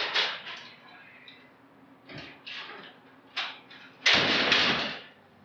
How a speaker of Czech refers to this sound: Zatnula jsem zuby, sebrala veškerou svou odvahu, sešla po betonových schodech a vešla těžkými kovovými dveřmi dovnitř.